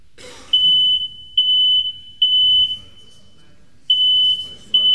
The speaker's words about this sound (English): Yeah, it's a smoke alarm actually, and you know it's important, isn't it? Really, when we hear a smoke alarm, that we actually do something about